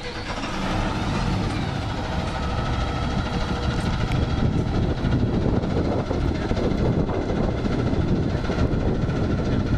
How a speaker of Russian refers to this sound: Зашумел двигатель.